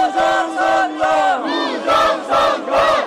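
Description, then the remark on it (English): A large crowd of close to 1,000 protesters in front of the National Election Commission's office in Gwacheon, Gyeonggi Province, shouts a chant in unison, demanding the commission suspend vote counting and hold a re-election. Loud rhythmic bursts of about six syllables repeat steadily, voices blending into a sustained roar over a low droning tone. “Crowds gathered in front of the National Election Commission's office in Gwacheon, Gyeonggi Province, at one point reaching close to 1,000 people, demanding that the commission suspend vote counting and hold a re-election.”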